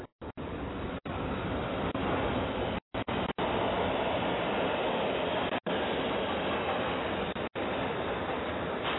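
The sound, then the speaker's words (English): A subway train rumbles along its rails with a steady, loud roar of wheel and track noise, continuous, broken only by a few abrupt, momentary cutouts. “Catch a ride on the subway.”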